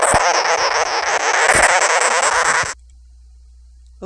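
A sugar glider, an exotic pet, crabbing as a warning call: a loud, harsh, buzzing chatter with a raspy, sputtering texture that runs unbroken for about two and a half seconds, then cuts off abruptly into silence.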